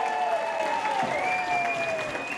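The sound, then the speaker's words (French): A crowd applauds steadily for the charity AZEP and its team of volunteers, a dense patter of many hands clapping at an even level throughout, with thin sustained whistling tones gliding faintly above the clapping. “Donc encore une fois, on peut applaudir très fort AZEP, toute l'équipe des bénévoles.”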